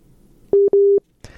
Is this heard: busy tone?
yes